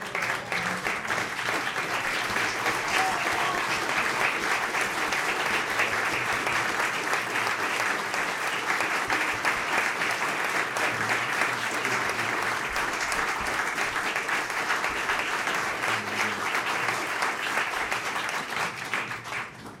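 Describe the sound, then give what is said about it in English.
Sustained applause from a standing audience for the Interpretation Series and its creator, Thomas Buckner: a dense, steady wash of many hands clapping at an even loudness for about twenty seconds before starting to taper at the end. “I'd like to ask all of you to stand now and give an appreciative round of applause to the Interpretation Series and its creator, Mr.”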